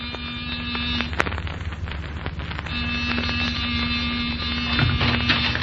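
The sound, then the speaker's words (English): A door buzzer gives a short, steady, low electric drone, stops briefly, then sounds again in a longer second buzz, all over a constant hiss like falling rain. “Give the buzzer a punch.”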